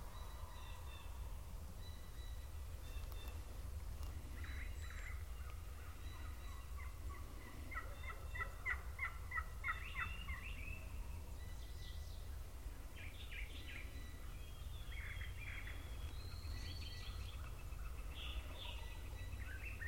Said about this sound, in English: And you can hear that the gobbler sounding off, and there's an echo to it. That's because they're way down in the bottom.